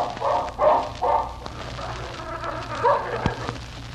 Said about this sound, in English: Razor, look. That dog is growling at Phil Furs.